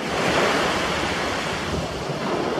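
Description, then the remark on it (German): Steady roar of surf washing onto the beach at Alanya, a broad continuous rush of breaking waves with some wind buffeting the microphone, no voices. “Lauter Nackedeis am Strand von Alanya.”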